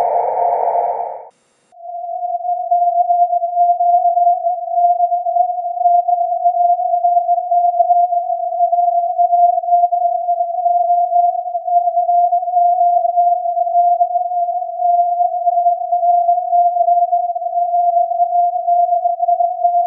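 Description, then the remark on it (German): A short burst of hissing receiver noise with a tone buried in it, then a clean, steady Morse telegraphy tone holds alone at an even, fairly loud level. “Das Rauschen wird dadurch leiser und das Telegrafiesignal tritt heraus.”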